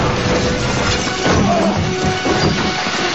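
Glass doors smash with a loud crash as a man runs through them carrying a small table, followed by a dense clatter of breaking debris that keeps up for a few seconds with no voices.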